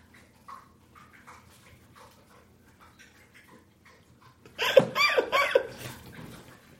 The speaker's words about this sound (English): Listen. She's not snoring. Yeah, she's just thirsty. I want to see how long she'll drink water.